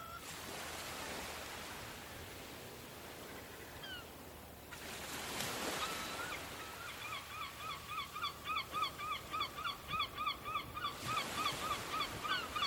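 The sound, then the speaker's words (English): Waves wash steadily onto the coast of an island, swelling into louder surges, while a flock of geese honks in quick repeated calls over the surf through the second half. No one speaks. “The sound of waves that reach the coast is really comforting.”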